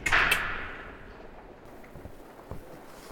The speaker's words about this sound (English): The doors are now opening.